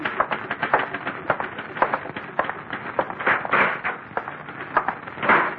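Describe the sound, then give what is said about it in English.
Rapid, uneven typewriter keystrokes clatter as someone types up a report, a dense run of sharp mechanical taps with occasional heavier strikes, continuing steadily without pause. “I'm typing up his report now.”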